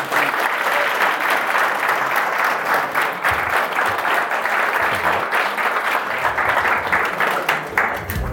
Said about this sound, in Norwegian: For et glittrende foredrag, altså. Det her var kjempegøy å høre på. Jeg synes vi skal gi henne en applaus til det.